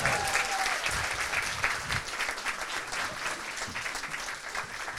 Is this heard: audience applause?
yes